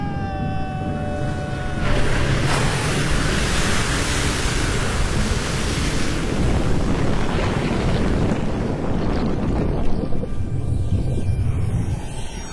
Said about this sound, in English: If by your art, my dearest father, you have put the wild waters in this roar, allay them. The sky, it seems, would pour down stinking pitch, but that the sea, mounting to the welkin's cheek, dashes the fire out.